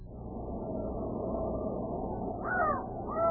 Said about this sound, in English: Listen. What? I only hear a raven talking. A raven?